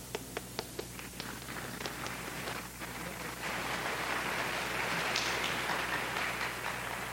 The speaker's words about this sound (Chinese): 为了我们对他的欢迎，请大家站起来，我们对他鼓掌。